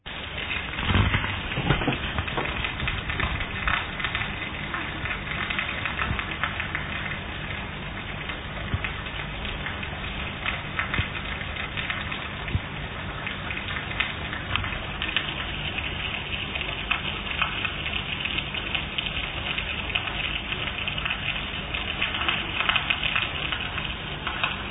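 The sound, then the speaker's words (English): Potable water from open taps overflows from polytanks and pours and splashes steadily onto the ground at the state flats at Adentang, a continuous hiss running for the whole stretch without pause, with no voices. “That was the sound of precious potable water going waste any time the taps are open at the state flats at Adentang.”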